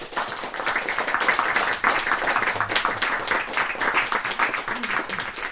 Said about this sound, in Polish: Pani profesor Ewa Pobłocka to jest właśnie nasz gość honorowy dzisiaj. Witamy serdecznie i poprosimy o gromkie brawo.